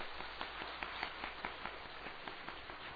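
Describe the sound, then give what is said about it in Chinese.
A church audience applauds to welcome three first-time visitors, a steady patter of many hands clapping at once, dense and even for the whole stretch and fairly soft, with no voices over it. “在这边，假如没有，我们鼓掌欢迎这三位。”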